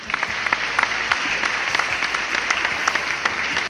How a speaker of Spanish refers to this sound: Aplausos.